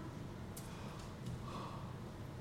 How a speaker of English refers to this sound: That's a big yawn there. Just you needed oxygen and not boredom. I know. I can tell the difference. I can tell the difference.